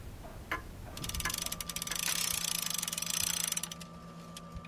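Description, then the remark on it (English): Mechanical clock ticking in the Wind Me Up Clock Shop, a clock repair shop in Rhinelander: a rapid, dense run of sharp metallic clicks starts after a second and continues steadily, over a faint constant hum and a thin high tone, with no talking. The tick and tock is the clock's beat. “The tick and the tock that you're listening to, that is what they call the beat.”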